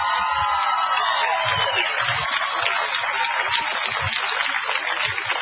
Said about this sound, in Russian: Спасенному аплодисменты!